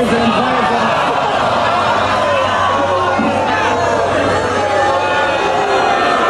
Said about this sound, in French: Je vous laisse écouter un petit extrait sonore de la foule qui était quand même surprise de voir le gars faire ça. Écoutez bien.